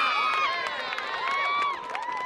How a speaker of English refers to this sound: On most weekends for nearly a century, cheers like these have been heard in Herkimer, a small town of about 8,000, where the high school football team has been a source of pride for the community.